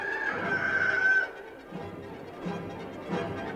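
rooster crowing

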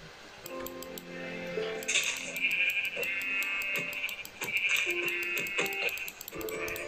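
sheep bleating

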